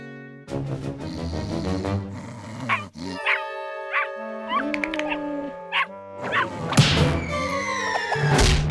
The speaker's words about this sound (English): You see that lazy cat over there? Let's try out that bark of yours. You got it!